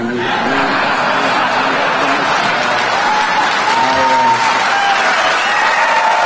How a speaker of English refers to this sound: That smattering of applause and groans and a couple of gasps kind of sums up how I feel about him joking about this.